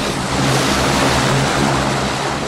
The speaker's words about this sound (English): One of the planes, destined for Boston, is a turboprop with two propellers. The pilot climbs aboard, starts the engine, and sends a deafening noise through the air.